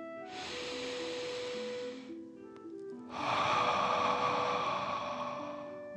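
A long, airy inhale drawn in through the nose, a brief pause, then a louder, forceful breath pushed out of the mouth, with soft music underneath.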